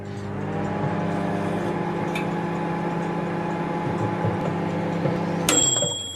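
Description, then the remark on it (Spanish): A microwave oven hums steadily with a low, even drone, then a single sharp, high-pitched beep sounds near the end as it finishes. “Este hasta los hombres de la casa lo conocen, un microondas.”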